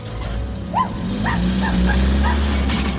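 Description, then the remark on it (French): A dog barks excitedly in a quick series of about five sharp yaps as it chases a truck, ringing out over the truck's loud, steady low engine rumble. “Ce chien est devenu fou.”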